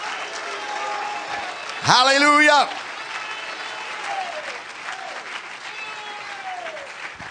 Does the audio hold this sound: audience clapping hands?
yes